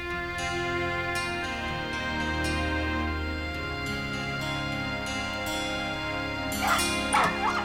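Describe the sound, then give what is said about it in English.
A dog barks at 3 in the morning in short, sharp bursts, with a louder cluster of yips near the end, over a steady background of sustained musical tones. “Will you please do something about your dog?”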